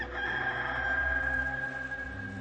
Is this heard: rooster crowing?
yes